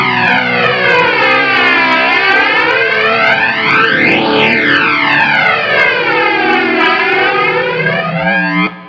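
A loud, fuzzy distorted guitar played through Mistress and Big Muff effects, drenched in flanger, its tone sweeping down and back up in a whooshing jet-plane swoosh, sustained and dense for several seconds before cutting off.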